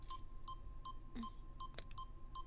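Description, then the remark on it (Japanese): Short electronic beeps repeat at a steady rhythm, roughly every half second, against a low background rumble, with a brief clattering noise partway through. “低層帯は私が外しますので、ビープ音が流れていてもそのまま待機していてください。”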